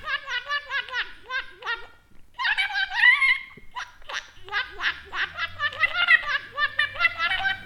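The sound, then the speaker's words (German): A Wasserradi, a radish with a long hole bored into it and filled with water, being blown as an instrument, giving bright, bubbly warbling trills in quick bursts, pausing briefly, then wavering up and down in pitch like a water whistle. “Aus einem Rettich ist ein Instrument geworden, der Wasserradi.”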